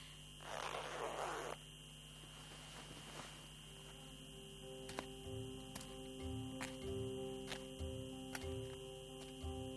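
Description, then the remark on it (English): A jacket hood is zipped up in one quick rasp near the start, at the entrance of the Hekmatane Hill complex in Hamadan in very cold weather, followed by quiet surroundings with a steady faint ticking and a low hum. “I better zip up my hood or I will freeze.”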